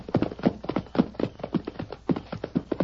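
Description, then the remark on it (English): Horse hooves clip-clop in a steady, brisk rhythm, each hoof striking fairly loud in a continuous trotting pattern with no voices over it. “Steady, big fella.”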